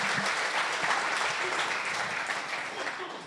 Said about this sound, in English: But, yeah, give God a hand clap.